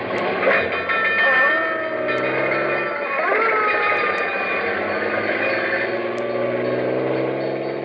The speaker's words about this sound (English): We're headed straight for Let's Pretend and the story of Bluebeard, a fire engine with a clang, clang, clang. Let's go!